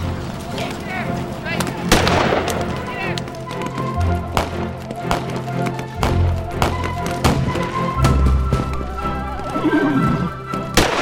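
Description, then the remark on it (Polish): A chaotic battle scene, an 1863 skirmish between a mounted patrol and Cossacks in fog: sharp gunshots and heavy booms crack repeatedly and irregularly, while horses neigh and whinny through the din, with muffled voices shouting in the background. “Powstała walka nierówna, podczas której ubito mi konia. W tym położeniu, odpowiadając strzałami na ogień nieprzyjaciela, cofałem się pieszo w stronę pobliskiego boru.”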